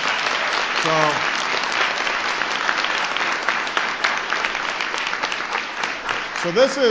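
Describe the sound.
A crowd claps steadily in dense, even applause that fills the whole stretch, with a voice briefly speaking at the start and again as the clapping ends.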